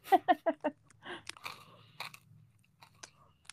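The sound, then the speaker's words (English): Crunching of a bitten-off piece of red Lifesavers hard candy cane being chewed: four sharp, rhythmic crunches in quick succession, then softer, irregular grinding and cracking that fades into quiet, wet mouth sounds. “I've done tiny little bites, except this red one. I literally bit off more than I could chew.”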